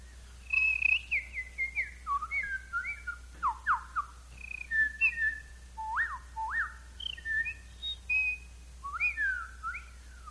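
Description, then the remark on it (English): A person whistles a rapid series of short, chirpy birdlike calls, imitating small songbirds with quick rising and falling notes, clear with no talking. “Start out and do a few little birds for you.”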